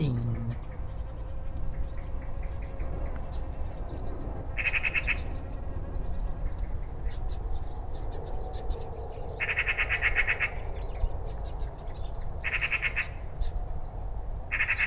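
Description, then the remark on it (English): Birds among leaves call and squawk in short bright bursts over a dense, steady background rumble, with a faint buzzing like insects mixed in. “Birds among leaves.”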